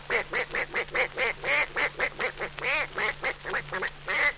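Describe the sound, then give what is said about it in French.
A voice imitates a duck, giving a rapid, steady run of about fifteen nasal quacks over a few seconds, fairly loud, with a faint low hum underneath. “Le canard.”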